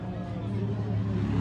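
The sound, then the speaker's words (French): Motorcycle engines rumble steadily as the motorcycles opening a race pass at the finish line in Kourou, a low droning growl that swells slightly toward the end, with a murmur of crowd noise underneath. “Passage des différentes motos qui ouvrent le balai.”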